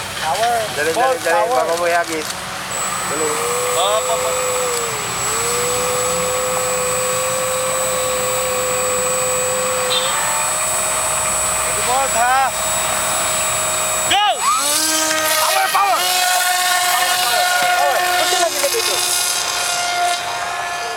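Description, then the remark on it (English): A drone launched by a group of researchers over a field in the Philippines; its motors whine steadily, their high buzzing pitch rising and dipping as it lifts off and manoeuvres, with a continuous rotor hum and some indistinct voices underneath. “What you're hearing is the sound of a group of researchers launching a drone over a field in the Philippines, one of the world's most at-risk countries for tropical storms and other disasters.”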